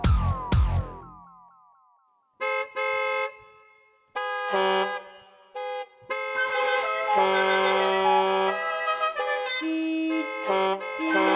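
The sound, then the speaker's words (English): Car horns honk loudly, starting with short bursts and building into long, overlapping blasts that keep blaring with brief gaps. A sharp burst of noise comes first. No one speaks. “Speaking of honking horns, it's James Horncastle.”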